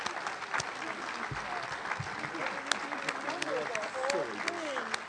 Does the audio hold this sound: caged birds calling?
no